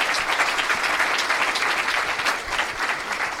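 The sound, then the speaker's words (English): Steady, loud applause from an audience welcoming first-time guest Josh Wolf: dense overlapping clapping sustained evenly for a few seconds with no voices on top. “And let's hear it for first-time guest Josh Wolf, everybody.”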